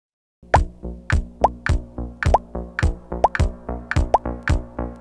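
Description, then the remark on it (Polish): A rapid, steady run of about a dozen electronic water-drop plops from a player, timing signals that set the running pace in a fitness test. Each is a short bloop with a quick upward pitch bend, evenly spaced and fairly loud, with no talking. “Wśród nich możesz usłyszeć 5 kolejnych dźwięków przypominających upadek kropli wody.”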